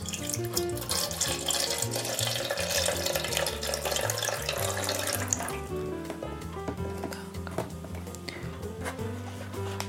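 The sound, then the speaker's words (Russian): Water pours steadily into a jar for about five seconds with a bright splashing hiss, then stops, while soft background music plays throughout. The water is to be mixed with glycerin, one part glycerin to two parts water. “Так, наливаем воду.”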